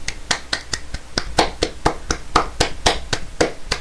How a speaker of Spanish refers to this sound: Bueno, pues cumplió 10 años esta marca tan famosa y tan reconocida a nivel mundial que es Google. Un aplauso.